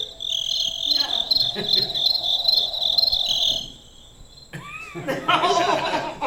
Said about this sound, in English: The crickets are going crazy. Let me try to shut them up.